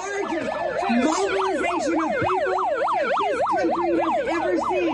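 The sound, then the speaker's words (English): A megaphone, broken after its cord was pulled out during a speech, blares its siren nonstop, the pitch sweeping up and down in a quick, steady wail about twice a second. Loud and harsh, with no talking over it. “It's just broken on the siren right now.”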